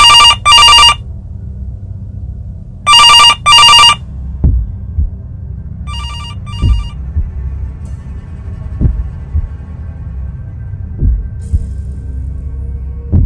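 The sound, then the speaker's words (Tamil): A telephone, Maya's phone, rings in three loud bursts as she comes out of college: two double rings early on and a softer one around the middle, over a low throbbing, heartbeat-like pulse that continues steadily throughout. “அப்போது மாயாவோட phone ring ஆக ஆரம்பிக்குது.”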